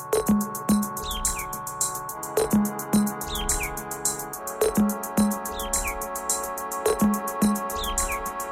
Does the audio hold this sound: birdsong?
yes